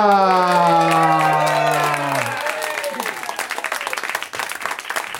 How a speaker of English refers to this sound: Listen to the crowd go nuts.